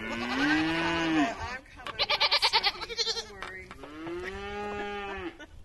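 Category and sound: animal, cattle mooing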